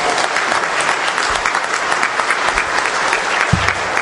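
A crowd bursts into a sustained round of applause, dense, steady clapping that stays loud and even for the whole stretch, with a low thump near the end and no voices heard.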